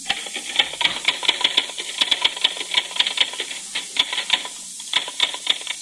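Rapid, irregular clacking of typewriter keys, dozens of sharp strikes in quick bursts over a steady background hiss, with no voices.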